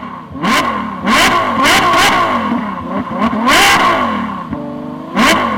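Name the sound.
racing car engine revving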